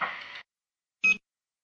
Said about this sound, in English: nor Mike, nor Johnny, or anybody really is here right now, so leave a message after the beep